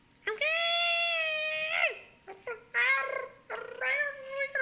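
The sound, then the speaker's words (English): A pet cat named Lila meows loudly at her owner at home at night: one long, drawn-out yowl followed by three shorter, insistent meows, each high-pitched and bright with strong harmonics, rising and falling in pitch. “And she just screams at me all night. That's what this is.”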